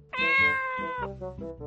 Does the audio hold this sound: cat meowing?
yes